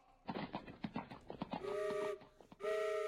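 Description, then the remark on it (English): Brisk clip-clopping hoofbeats give way to two loud, sustained train whistle blasts, steady and tonal, the second starting after a brief pause; the train is right across the road on the way to Ottawa. “What is that sweet music I hear? Ah, yes! A train whistle!”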